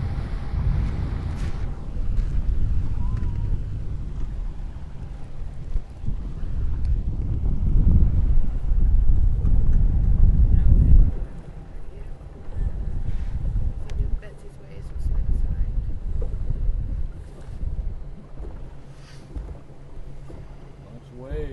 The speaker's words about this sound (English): Got a little bit of wind this morning.